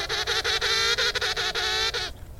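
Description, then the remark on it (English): An angry goose honks loudly and harshly for about two seconds, a rapid run of raspy, nasal blasts with brief breaks between them, then cuts off abruptly; this goose call was used for the Velociraptor's hiss in Jurassic World. “Well, that is an angry goose.”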